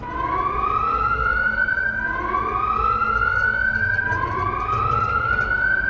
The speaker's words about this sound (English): That is the emergency alarm, sir. This specific alarm indicates that the engines are in a critical state and will most likely explode in just a few moments.